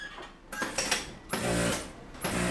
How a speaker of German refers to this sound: Die Nähmaschinen rattern in einem hellen Raum im Gemeindezentrum des Roten Halbmonds im Istanbuler Arbeiterviertel Bacalar. Die Fenster sind trotz eines Gewitterschauers weit geöffnet.